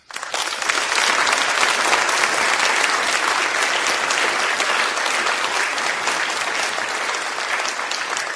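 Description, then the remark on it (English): A crowd applauds loudly and steadily for several seconds to welcome a speaker, the dense clapping holding an even level throughout with no one speaking over it. “Some people clap, but I just was praising God.”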